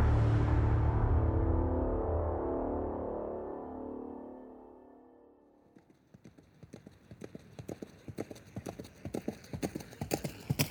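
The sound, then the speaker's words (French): A deep rumbling swell fades away, then a horse's hooves start clip-clopping in a steady, brisk rhythm, fairly loud, as a horse is ridden on a property, with no one speaking. “Françoise Malgouir monte à cheval sur la propriété en compagnie de Richard, l'éleveur, Richard Liop, quand soudain, c'est l'accident.”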